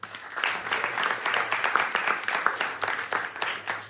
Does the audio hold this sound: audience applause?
yes